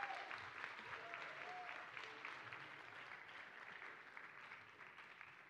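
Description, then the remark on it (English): A crowd applauds the children after their performance, clapping steadily for several seconds, a dense wash of clapping holding at an even level before tapering slightly toward the end, with faint voices mixed in. “Can we get another round of applause for those kiddos?”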